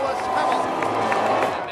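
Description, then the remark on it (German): A large crowd of Formula 1 fans booing Lewis Hamilton at the podium ceremony, a dense, steady roar of voices with low drawn-out jeering tones running through it for the whole stretch, no single voice standing out. “Dort wird Lewis Hamilton von vielen Fans ausgebuht.”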